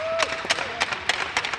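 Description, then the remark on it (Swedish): A handful of sharp, irregular claps from the Göta group ring out over a faint background murmur, with a brief high whistle-like tone at the start. “Vi applåderar er.”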